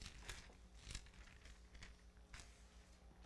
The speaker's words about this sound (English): We've already used this scripture before, but we're going to do it again. Let's hear those pages turn.